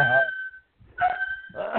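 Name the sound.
dogs barking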